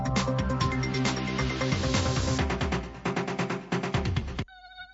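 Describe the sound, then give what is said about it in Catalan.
A loud tiger mosquito buzz drones steadily for about four seconds, pulsing and wavering in pitch, then cuts off abruptly, leaving only a faint tonal hum. “Compte, el mosquit tigre ja arriba.”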